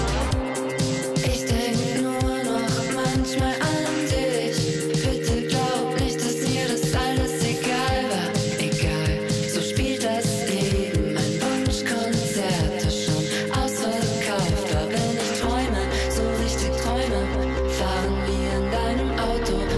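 A song plays loudly with a steady driving beat, thick bass, and layered melodic instruments; near the end the drums drop out, leaving a sustained low chord.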